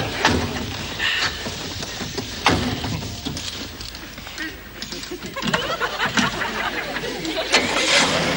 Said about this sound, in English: Listen to that engine purr. That is the sound of the Appleton system at work.